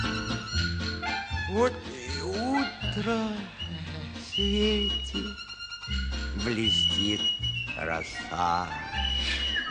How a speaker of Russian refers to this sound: Послушай, птичьи голоса. Это какая птица? Это зяблик. А это? Синица. А это?